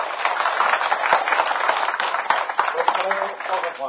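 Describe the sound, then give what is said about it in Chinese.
A crowd applauds steadily for a few seconds to thank a teacher, a dense, even wash of many hands clapping at once, with a few sharper claps standing out from the texture. “啊，咱多一个掌声来，多谢咱老师。”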